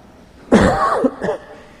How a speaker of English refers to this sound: Glad I'm going to cough.